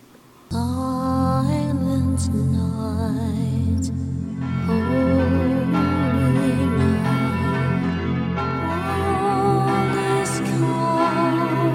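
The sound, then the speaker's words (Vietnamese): Church bells ring out loud and full on Christmas night, their tones overlapping with a choir's sustained singing, starting abruptly and carrying on steadily without pause. “Mà bà ơi, đêm nay là đêm gì vậy mà cháu nghe thấy có tiếng hát, lại có cả tiếng chuông nữa?”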